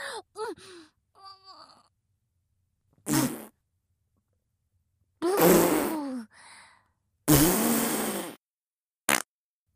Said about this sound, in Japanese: もうおならしたのになんでパパ遅いの。